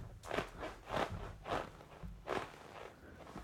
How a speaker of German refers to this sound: Das Kunstleder von meinem Sessel knarzt.